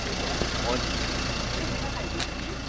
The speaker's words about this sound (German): In der Wendeschleife, in der auch einige Autos parken können, fährt mit der Ankunft des Zuges ein kleiner türkisfarbener Bus ein. Bahnfahrer können also ohne Wartezeit umsteigen.